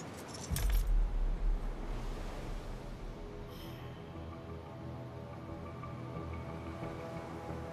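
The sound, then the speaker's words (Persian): A short, bright jangle of keys as they are handed over near the start, followed by a steady low rumble and hiss that carries on to the end. No one speaks. “کلیدا رو رد کن”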